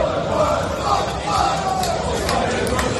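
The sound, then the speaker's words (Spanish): A dense crowd of Dutch football fans chanting together around the stadium in Madrid, a loud, sustained roar of many voices with rising and falling sung tones, steady throughout without pauses. “No solo en los alrededores del estadio, como estás escuchando, también en la Plaza Mayor o la Puerta del Sol, donde esta noche habrá presencia de muchos holandeses.”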